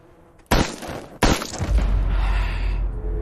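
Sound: gunshots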